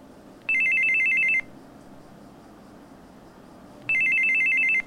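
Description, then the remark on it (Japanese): A telephone rings twice with a call from an impostor posing as Yoshio. Each ring is a bright, rapidly trilling electronic burst lasting about a second, separated by a pause of a few seconds over a quiet background. “偽上司の鈴木の電話の後、すぐに偽物の吉尾から電話がありました。”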